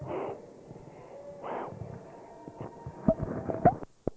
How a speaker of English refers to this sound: So, buddy, listen very, real careful. You can hear her breathing more than anything.